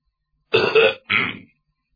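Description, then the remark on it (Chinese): A voice imitates the Yongle Emperor, seated on his dragon throne, clearing his throat before speaking: two gruff, rasping cough bursts, the first longer, the second shorter after a brief pause, loud and alone with no talk. “就见永乐帝高坐在盘龙椅上，手捻着须髯，先咳嗽一声，而后说话。”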